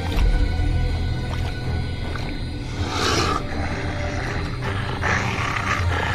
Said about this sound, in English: What you get to do is you get to hear the lizard scream and turn into something as the camera pans up into the sky.